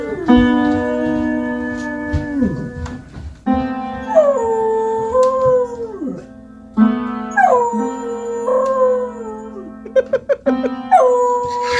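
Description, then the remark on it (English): A beagle howls in long, wavering bursts, loud, while jumping up and pawing at a piano by itself. Piano notes ring out steadily beneath, struck in clusters between howls. No one speaks. “I love howling dogs, but when a dog actually jumps up and uses his paw to play the piano and howl at the same time.”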